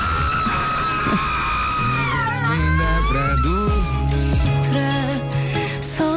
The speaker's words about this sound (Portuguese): E entretanto tenho aqui um grito cavernoso de ontem, se calhar faz sentido.